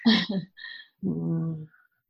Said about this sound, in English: my kitty cat, by the way, escaped his room. So that's who you're hearing. It's the one claw kitty.